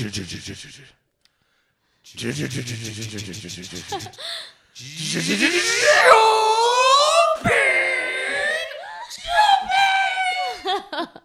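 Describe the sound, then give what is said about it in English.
A voice mimics a car as a group effort: a rough sputtering engine start, then rising and falling revving sounds as if turning left and right, ending in a high, drawn-out screech like brakes coming to a full stop. Loud and energetic, with some laughter-like breaths. “The end was like the brakes, like screeching on the brakes. You get it started, and you go left, you go right, and then you come to a full stop”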